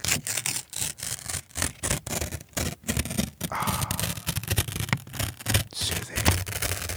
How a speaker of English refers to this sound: As we listen to the paper rip